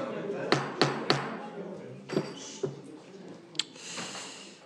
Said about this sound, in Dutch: Met uw welnemen wil ik verder met de gemeenteraad van 25 oktober. Maar blijkbaar heb ik toch de hamer nodig.